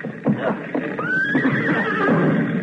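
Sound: horse whinnying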